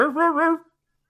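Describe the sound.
A voice imitates a dog bark in a 'Casio dog' voice: one brief, tonal, two-part yelp lasting well under a second, followed by silence.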